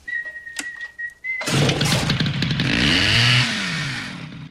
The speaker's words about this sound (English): He starts up the chainsaw and slices it off. It topples off.